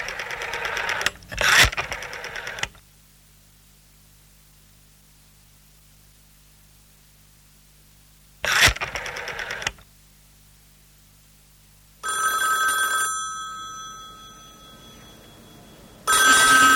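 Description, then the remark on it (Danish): An old rotary telephone: bursts of noise and soft rhythmic clicking as the dial turns, then a clear bright ring of the bell, with no voices. “Ja, her der er det den gamle drejeskive-telefon, og i dag der hedder det jo internettet”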